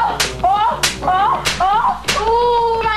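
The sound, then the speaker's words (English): Four sharp, loud whip cracks as a government inspector whips a sock factory worker, landing roughly every two-thirds of a second, each followed by a brief wavering, voice-like cry that rings out between the strikes. “He would be whipped. By a government inspector.”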